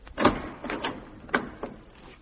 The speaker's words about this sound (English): Must I do it myself? Open the door. Of course.